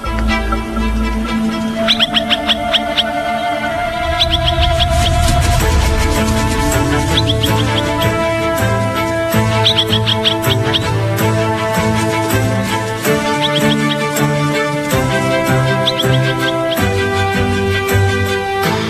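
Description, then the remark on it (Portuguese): A parent bird, the father, gives sharp, repeated alarm calls to keep its chicks safe from foxes. The calls come in short bursts every few seconds and are fairly loud, over a dense, steady background of sustained tones. “O pai vai mostrar a que veio e solta o alarme.”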